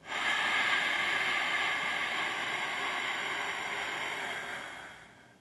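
A long, steady Ujjayi (ocean) breath through the nose with a constricted throat, making a soft, even oceanic hiss that swells quickly and tapers off over about five seconds. No talking.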